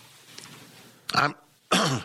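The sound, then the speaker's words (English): Two harsh, throaty bursts of coughing and throat clearing, fairly loud, separated by a short pause after a quiet lead-in. “I'm infected by all this. I gave you the man the coughs.”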